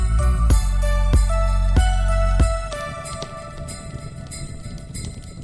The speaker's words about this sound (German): So, ho, ho, ho, die Glocken klingen.